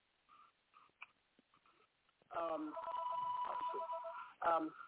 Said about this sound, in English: Well, you can hear phones ringing and people listening.